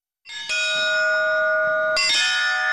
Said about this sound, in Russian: О том, как соблюдается традиция праздничных звонов